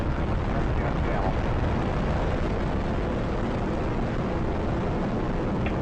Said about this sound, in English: T minus 10, 9, 8, 7, 6, 4, 3, 2, 1, and liftoff of Space Shuttle Atlantis, the final visit to enhance the vision of Hubble into the deepest grandeur of our universe.